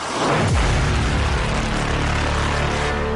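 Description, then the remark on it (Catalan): At the start of a dance song, a heavy, booming impact strikes, then a loud, roaring synthesizer swells in and holds as a dense, steady drone with a long reverberant wash. No voices are heard. “Aquest impacte ja és una declaració d'intencions. Està resseguit per un sintetitzador que rugeix i que és amplificat i prolongat per una gran reverberació.”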